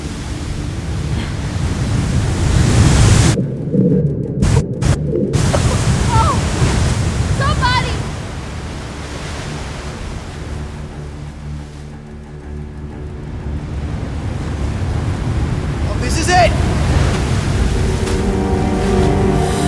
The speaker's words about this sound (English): The wave that seemed about to crush us against the wall of the cave just withered and died. It pulled back further and further.